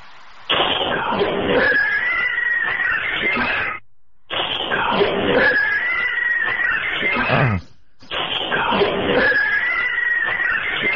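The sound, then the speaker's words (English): A recording of a cat letting out three long, harsh screams in a row, each lasting a few seconds with brief silences between them. The yowls are loud and raspy, with no talking. “There's an actual voice just before the cat.”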